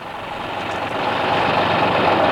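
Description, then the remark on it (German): A steady, dense engine rumble of a company's small truck driving through extraordinarily dense traffic, a broad continuous roar that grows slightly louder, with no voices present. “mit Patrick, dem Angestellten der Firma, in dem kleinen Lastwagen loszufahren”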